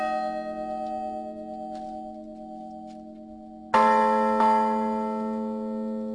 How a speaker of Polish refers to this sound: To jest rodzaj polifonii na dzwonach, to jest uruchomienie jednocześnie kilku dzwonów przez dzwonnika bądź zespół dzwonników, wygrywając w ten sposób rodzaj melodii. Te brzmienia się uzupełniają, tworząc swego rodzaju melodię.